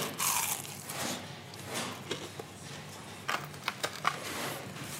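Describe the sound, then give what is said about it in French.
Crunching as someone bites into a piece of crispy fried chicken dipped in sauce, a loud first bite followed by a cluster of sharp crackly chews a few seconds later, with no talking. “On va croquer dans le poulet.”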